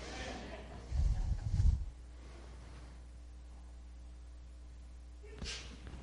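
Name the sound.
sneeze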